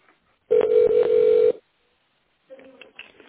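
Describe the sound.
A telephone ringback tone on a call to the company LP Group sounds once, a loud steady low-pitched buzz lasting about a second, followed by a pause before a voice begins talking.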